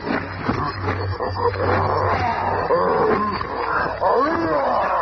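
A maddened gorilla, the Red Ghost's Comrade Gorilla, roars and snarls furiously as it springs on the Thing in an attack, loud and chaotic, with overlapping growls and rising howls filling the whole few seconds.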